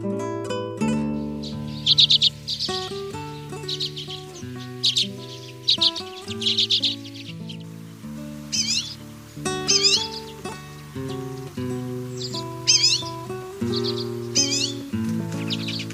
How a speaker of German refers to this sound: Das war der Birkenzeisig.